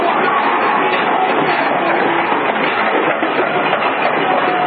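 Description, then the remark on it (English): A large crowd of merrymakers or protesters in front of the women's jail roars in a dense, continuous wash of voices and shouting, loud and steady throughout with no clear pauses or individual words standing out. “And you can hear the tumult in front of the women's jail as a crowd of merrymakers or protesters, it looks like quite a crowd, is creating some noise.”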